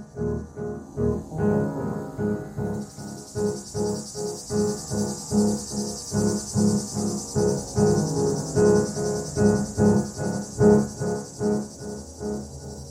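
A cicada chirps in steady rhythmic pulses, a couple per second, joined after a few seconds by a continuous high-pitched buzz. It sounds fairly loud, with no one talking.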